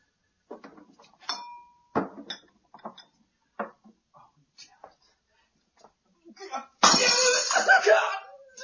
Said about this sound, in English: Broken glass, rapped left.